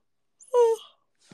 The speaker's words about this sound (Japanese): やばい、マジで、あくびが止まらん。